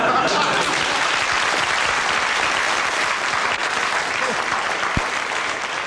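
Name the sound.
studio audience applause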